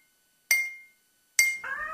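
A spoon taps a glass twice as a sound cue in a cat training test, each strike a bright ringing clink that fades slowly, followed immediately by a cat's meow.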